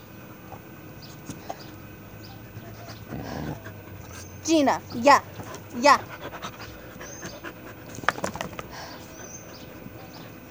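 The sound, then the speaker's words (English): Dogs growl at each other in a few short, sharp bursts amid panting, with a person briefly speaking in the background. “Like, my dogs growl a lot at each other. Like, they're very vocal, but, like, they don't fight each other.”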